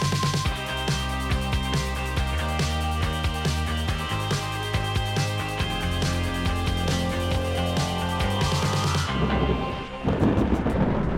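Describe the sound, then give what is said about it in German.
Thunder rumbles through a steady wash of rain, mixed under a rhythmic musical bed. The storm noise swells and becomes more prominent near the end. No one speaks. “Ja, Leute, ihr habt richtig gehört. Heute soll's gewittern, regnen und das Wetter echt unangenehme Temperaturen annehmen, zumindest im Vergleich zu den letzten Tagen.”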